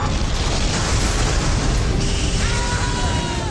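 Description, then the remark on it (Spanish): A massive underwater explosion, after a torpedo strikes a ship, blows open the ship's bow, roaring continuously, thick with deep rumbling and crackling debris noise, loud for several seconds with no voices. “Tras el impacto del torpedo, se produce una segunda explosión que abre la proa del barco como la boca de un tiburón.”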